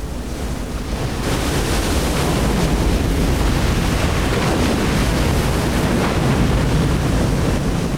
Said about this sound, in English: a small group of seasoned-looking surfer types who are looking out at the wild ocean smashing against the rocks.